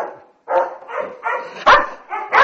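Several Belgian shepherd puppies bark and yip in quick, overlapping bursts, fairly loud, with short high-pitched yelps between the barks and no talking. The puppies were bred from a pair of Belgian shepherd dogs imported from Bosnia.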